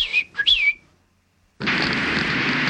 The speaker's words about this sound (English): I whistle for him.